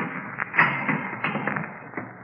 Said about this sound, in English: I glanced at my watch at 11:15, and right after that, I heard the heavy latch on the door being turned. I got back into my position on the floor, closed my eyes, and listened.